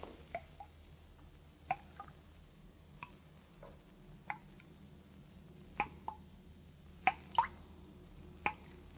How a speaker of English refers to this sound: See anything, Captain? No. Place is empty. Not a sound but the dripping water.